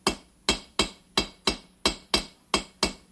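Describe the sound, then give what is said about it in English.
Sharp, ringing hammer blows strike metal on an anvil in a steady rhythm, about nine evenly spaced hits with short bright decays, clear with no talking; the hammering stretches the metal, making it wider, and makes it curve a little. “The metal starts to curve a little bit too when you're hammering it.”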